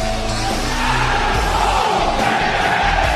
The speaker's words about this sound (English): You heard the crowd, all 6,000 of them, in unison, do this.